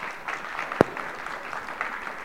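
An audience applauds a woman with steady, dense hand clapping that fills the whole moment, and one sharp, louder clap rings out partway through.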